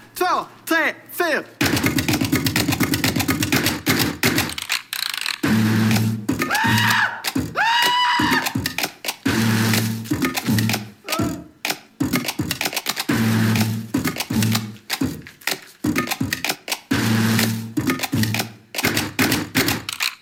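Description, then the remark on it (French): Bank machinery hums in repeated low bursts inside a bank while crumpled banknotes crinkle and rustle, punctuated by sharp thuds, clicks and small electronic beeps, all fairly loud, with brief voices in the mix. “On va entendre les billets froissés, les différentes machines et différents petits signaux sonores qui ont lieu dans la banque.”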